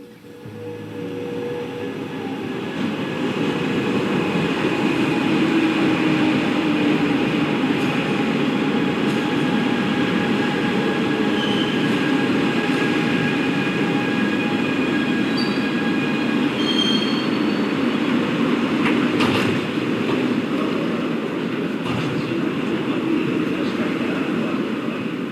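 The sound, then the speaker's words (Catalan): A metro train rumbles into Urgell station at 8:15 in the morning, a steady loud roar building in the first seconds, with high wheel squeals and screeching tones layered over the noise, then a few sharp clanks near the end. “Parlem de l'arribada del metro a la nostra estació.”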